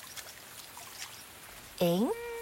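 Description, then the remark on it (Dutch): Shower water pours down in a steady, moderate hiss as Jopie washes off mud, then a loud, rising tonal cry abruptly takes over near the end. “Wat een heerlijke douche.”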